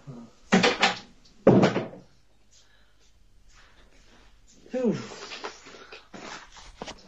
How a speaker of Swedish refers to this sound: Flyttar du möbler?